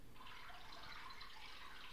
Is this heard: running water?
yes